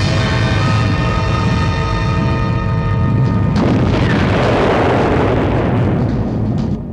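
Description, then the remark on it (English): A heavy rockfall rumble roars continuously for about seven seconds, deep and loud, with a grinding, crashing texture that shifts midway before tapering off at the end. No voices are heard. “Another rockfall.”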